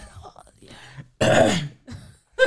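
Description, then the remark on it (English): A single loud, harsh cough bursts out near the middle, surrounded by quieter throaty vocal sounds before and after. “You were the one coughing as well, you know, before.”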